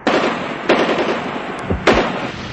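Loud bursts of gunfire crack out three times over a steady rumbling noise bed, with quicker rattling shots pattering between them: an enemy machine gun firing short bursts across the surface of the Arvand River as divers enter the water.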